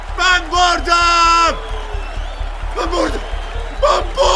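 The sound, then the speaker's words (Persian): At a boxing match, after the referee rings the bell, the winning boxer lets out several loud, drawn-out triumphant shouts and bellows, followed by more scattered yells, with a noisy crowd murmuring and cheering in the background. “داور زنگ را به صدا در میآورد. بوکسور برنده فریاد میزند.”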